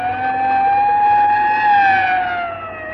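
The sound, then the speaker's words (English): An ambulance siren wails loudly in a steady, slowly rising and falling tone, swelling as the ambulance draws near and then easing off as it passes, heading to a university building. No one speaks. “Yeah, you better pull over and let that ambulance get past before it runs us down.”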